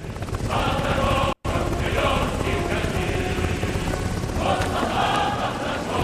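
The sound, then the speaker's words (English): A helicopter hovering above a field fills the scene with a loud, steady rotor roar and whine, continuous throughout apart from a split-second dropout, with faint crowd noise mixed underneath. “A helicopter hovers above a field.”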